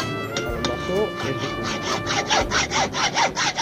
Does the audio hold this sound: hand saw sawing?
yes